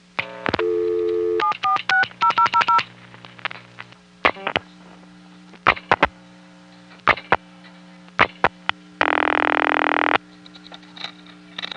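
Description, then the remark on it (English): Telephone line as a number is dialed and the hook is flashed just as the first digit is sent, then three ones are flashed: a quick burst of tones early, then scattered sharp hook-flash clicks and a brief loud tone burst over a steady low hum. “flash my hook just as the first digit is being sent.”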